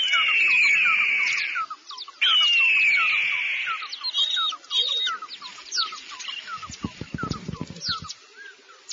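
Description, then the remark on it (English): An eagle gives two long, shrill, downward-sliding screeches, followed by scattered squeaky chirps and a brief burst of low thumping near the end. “The eagle Where?”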